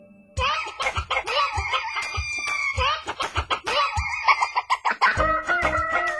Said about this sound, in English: Get those roosters crowing! Hey, you remember that for tomorrow morning. You better need some roosters crowing for you.